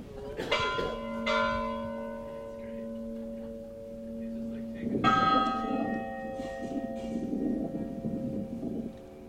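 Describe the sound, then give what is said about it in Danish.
Church bells, rung by hand by pulling ropes rather than electrically, ring out in a few strong, uneven strikes, each leaving a long humming resonance; a second burst of clanging follows after a pause, fading slowly with faint murmuring underneath. “Så de havde simpelthen, jeg gætter på, at de havde vagtplan med, hvem der skulle hen og hive i snorene, fordi der er klokker til at ringe.”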